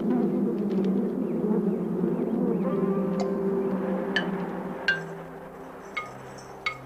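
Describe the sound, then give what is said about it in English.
A dense, steady drone of many honeybees buzzing together, continuous, with a few faint light clicks or taps near the end. “The bees common in the United States are derived from the Italian honeybee, which was deliberately introduced here.”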